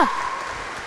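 Applause for the Dominican Sisters from Broniszewice: a steady wash of clapping from a crowd, dense and even throughout, with a brief tonal ring at the very start and no talking over it.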